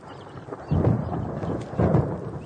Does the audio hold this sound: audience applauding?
no